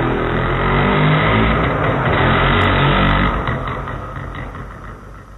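A motorcycle taxi's engine revs loudly, a steady harmonic drone that then fades as the motorcycle taxi pulls away from the bus station. No one speaks.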